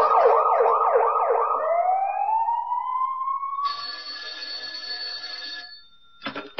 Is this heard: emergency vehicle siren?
yes